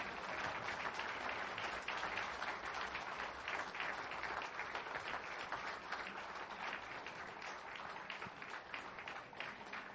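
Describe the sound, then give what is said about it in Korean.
Sustained applause from a large audience for a group of young people, a dense, steady wash of many hands clapping that holds at an even loudness for the full ten seconds with no talking over it. “우리 다시 한번 뜨거운 박수 부탁드립니다.”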